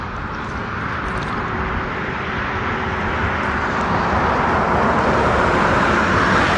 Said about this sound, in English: I'm going to make this turn soon, so a lot of this traffic noise will go away. Sorry about that.